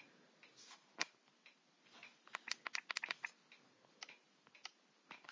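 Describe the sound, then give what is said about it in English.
A clock ticks softly, recorded as an ASMR test, a string of crisp little clicks that bunch together in the middle, with no voices, only a faint hiss underneath. “Clock ticking.”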